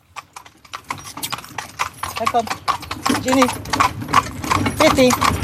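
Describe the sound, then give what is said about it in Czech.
A horse-drawn carriage pulled by draft horses clip-clops steadily along the only asphalt road on a car-free island, a brisk, regular rhythm of sharp clops, with people talking over it. “Projet si ho ale můžete na elektrokole nebo koňským povozem.”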